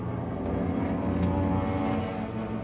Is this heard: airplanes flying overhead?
yes